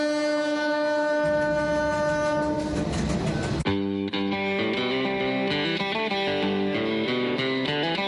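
A long, steady train horn blast sounds over a swelling rumble of a passing train, then gives way to a busier stretch of shifting tones and mechanical noise. No one speaks.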